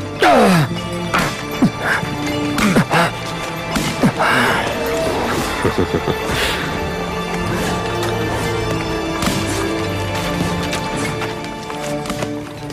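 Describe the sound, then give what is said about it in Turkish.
Sharp whip cracks snap out repeatedly at irregular intervals, loud, with strained vocal sounds like groans in between and a steady background hum throughout. “Eğer bir kırbaç daha vurursan hepimiz çalışmayı bırakırız.”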